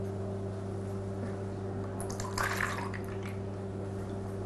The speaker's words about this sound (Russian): Берем дрожжи, заливаем их сливками.